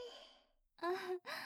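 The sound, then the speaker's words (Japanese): A big, drowsy yawn: a breathy exhale trails off, then a drawn-out voiced stretch rises and breaks into a final sleepy sigh. “つられて私まで。”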